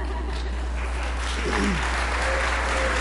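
Sustained applause from a large church audience, a dense wash of clapping with scattered cheers and whoops rising through it, steady and loud throughout, cheering the adults who went on a work project.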